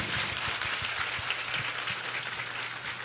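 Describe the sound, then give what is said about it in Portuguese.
An audience at a Mass at a diocesan sanctuary, on a sunny winter morning, applauds the people welcoming the pilgrims: a steady, dense wash of many hands clapping at an even level for a few seconds, with no voices standing out above it. “Vamos aplaudir a todas as pessoas que estão aqui.”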